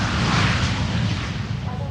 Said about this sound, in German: Dann bitte einsteigen in den Hörspielshow-Flieger und los geht's.